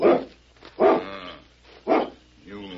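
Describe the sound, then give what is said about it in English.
A dog barks three times at a steady pace, close and fairly loud, with a short, softer whining sound trailing after the last bark. “That dog is perfectly tame.”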